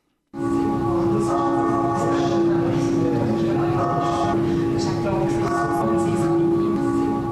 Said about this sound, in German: Dieses Glockenläuten hören die Besuchenden der Ausstellung Mord und Totschlag. Es ist die arme Sünderglocke vom Berner Münster.